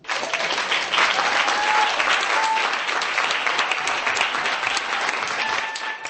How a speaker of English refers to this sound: There was a huge cheer of support from Kumar's many friends, both Roma and non-Roma, who had made the long journey from Ostrava to Prague as the ambassador announced the award.